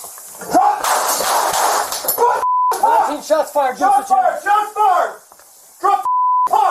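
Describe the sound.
A rapid burst of gunshots fired by a police officer cracks out over loud, frantic shouting. Raised voices keep yelling afterward, cut by two short electronic bleeps.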